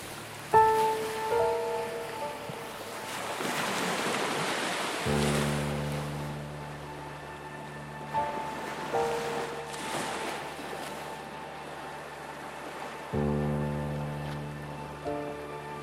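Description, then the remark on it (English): Soft ocean waves swell and wash in a few slow surges, blended with calm, sustained synth tones that drift underneath. No one speaks. “Allow the sound of the waves to continue relaxing your whole body.”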